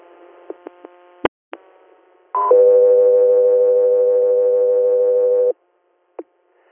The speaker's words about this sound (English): 03 Air, stand by for tones.